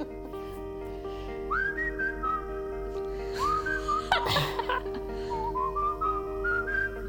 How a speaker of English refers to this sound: So this is quite a sad song, actually. The guy who whistled does not feature on the video.